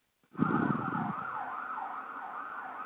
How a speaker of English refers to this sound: Oh, I hear. Were those sirens?